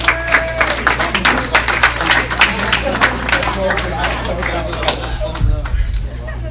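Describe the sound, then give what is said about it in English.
An audience claps to welcome a comedian to the stage, in a dense, steady patter of sharp hand claps, mixed with murmuring crowd chatter, and the clapping thins out near the end. “I said, clap it up, not talk amongst yourselves.”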